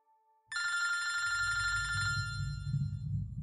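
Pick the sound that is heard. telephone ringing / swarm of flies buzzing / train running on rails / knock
telephone ringing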